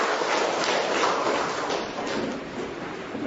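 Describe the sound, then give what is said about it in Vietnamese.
A crowd at a Catholic religious gathering claps steadily for a few seconds, a dense, fairly loud wash of applause that holds at an even level without anyone speaking over it. “Một tràng pháo tay thật lớn với anh chị em tại nghĩa trường.”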